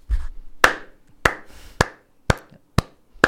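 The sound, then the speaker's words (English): A show host claps their hands slowly and steadily, six sharp, crisp claps spaced about half a second apart, with a brief low rumble before the first one and no talking. “I think this is the first time I clap on my show.”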